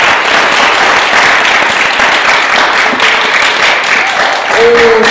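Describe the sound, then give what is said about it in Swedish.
Sustained applause from an audience for two guests who played music, a dense, steady patter of many hands clapping at once, loud and continuous for several seconds. “Så de får en gemensam applåd.”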